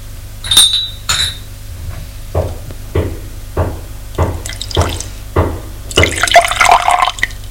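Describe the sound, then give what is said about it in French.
Two bright china clinks, then a slow run of soft drips and taps, ending in a short, louder splashing rush as a man pours himself coffee into a cup. No one speaks. “Edmond se sert son café.”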